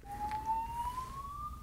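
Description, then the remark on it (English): A fire alarm goes off in a building during an interview, sounding as one continuous, piercing electronic tone that climbs slowly in pitch, steady and fairly loud over a low background rumble, with no one speaking. “Fire alarm? I think so.”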